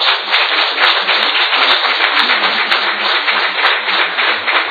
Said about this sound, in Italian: Grazie Davide, ti meriti veramente un bel applauso.